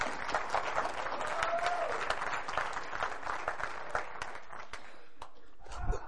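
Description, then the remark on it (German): An audience applauds steadily, a dense wash of many hands clapping at an even level for several seconds, with faint voices mixed in and a brief low thump near the end. “Ihr dürft klatschen.”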